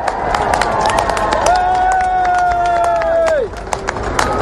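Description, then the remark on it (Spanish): Thousands of people at the fence in front of Buckingham Palace cheer and shout "God save the king" as King Charles III and Camilla arrive by car, a steady cheer with scattered claps and whoops, while one long, held high-pitched cry rises above the din for a couple of seconds before breaking off. “Han empezado a gritar God save the king, Dios salve al rey.”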